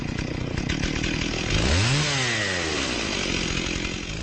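A small petrol lawnmower engine roars loudly, its pitch surging up in a brief rev partway through before settling back to a steady drone.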